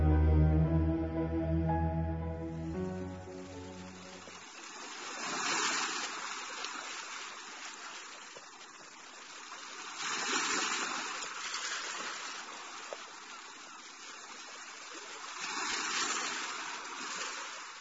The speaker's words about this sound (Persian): امواج دریا آروم به روی هم می‌لغزیدند و مرغان دریایی با صفیری رازآلود هر لحظه بر سطح آب می‌نشستند و بلند می‌شدند.